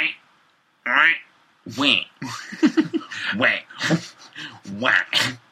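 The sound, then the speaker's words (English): A person imitates a frog with a run of croaky, squawking vocal bursts in uneven rhythm, loud and harmonically rich, punctuated by short gaps and what sounds like stifled laughter. “No, that's a frog. That's bullshit. Is that a frog? That's like a boar.”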